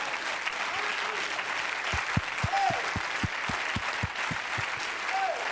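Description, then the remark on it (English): An audience claps their hands unto God steadily in a dense wash of applause, with a regular low thumping beat running underneath for a few seconds and occasional faint voices rising over the crowd. “Let's clap our hands unto God.”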